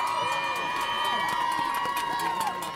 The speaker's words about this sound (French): On a la grève de la radiologie, on a la grève des aides-soignantes et des sages-femmes de la maternité. Je pense qu'on va les applaudir.